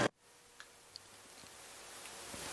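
A clock ticks softly and sparsely, a few faint, sharp clicks spaced about half a second apart over a steady background hiss, with no voices.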